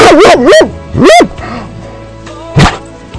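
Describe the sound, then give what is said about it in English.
A dog named Ranger lets out three loud, drawn-out barks with a wavering, almost yodeling pitch, followed by a pause and a single dull thump. “And Ranger, what is dog spelled backwards?”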